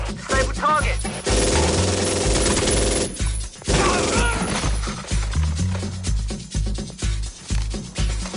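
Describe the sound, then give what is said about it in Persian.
Rapid bursts of gunfire crackle loudly and repeatedly through a dense, chaotic scene at the National Library, where police forces respond to a shooting by a female suspect, with shouting voices and heavy background noise mixed in. “تمام نیروهای موجود، تیراندازی، مظنون یک زنه، محل کتابخانه ملی.”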